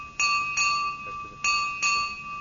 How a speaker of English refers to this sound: One bell, hit five times.